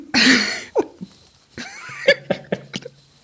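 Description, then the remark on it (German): A strong cough opens, followed by a string of shorter, softer coughs and throat sounds spaced unevenly over the next few seconds, with no talking. “Führ das mal aus, weil ich muss gerade mal husten.”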